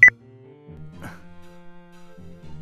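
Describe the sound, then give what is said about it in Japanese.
A single short, sharp electronic beep sounds at the very start as a mobile phone call is hung up, followed by a faint, steady low hum with no voices. “え、切ったの？”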